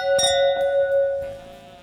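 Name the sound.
wine glasses clinking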